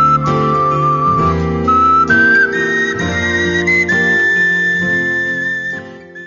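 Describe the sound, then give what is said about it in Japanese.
A gentle, breathy wind melody of ocarina and recorder plays a slow, stepwise tune over soft sustained accompaniment, steady and fairly loud, fading at the end. “この楽曲を聴けば、なぜか懐かしさを感じる、そんな雰囲気の音楽、それはオカリナとリコーダーが醸し出しているのです。”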